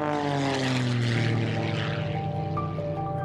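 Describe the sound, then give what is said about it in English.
A propeller airplane roars loudly at full power, its engine drone holding a steady buzzing pitch that shifts slightly as it pulls away for takeoff. “And for a moment, TJ contemplates getting in the cockpit of one of his 30 airplanes.”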